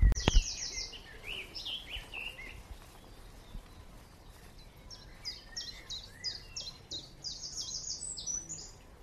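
A small songbird, greenish olive above and dull white underneath with tiny dull yellow flashes, calls repeatedly in high, thin chirps, first a quick cluster of notes and then a steady run of short, evenly spaced calls over quiet outdoor background hiss.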